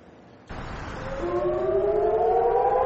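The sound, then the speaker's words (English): A civil defense air raid siren in Eilat, southern Israel, warning of a rocket attack, starts up after a moment of quiet. Its tone rises steadily in pitch as it winds up over a broad, rumbling background, loud and sustained. “When sirens warn of a rocket attack, residents of Eilat in southern Israel have about 30 seconds to get a shelter.”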